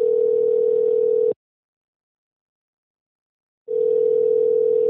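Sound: telephone dial tone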